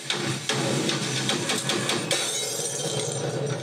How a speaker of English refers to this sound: A light smashes. Probably just a coincidence.